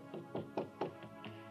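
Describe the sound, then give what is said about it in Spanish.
A series of five hollow knocks on a door, four in a quick, fairly even run followed by a short pause and a single final knock, moderately soft and with no voices. “cuando nos sorprendimos al escuchar tocar la puerta.”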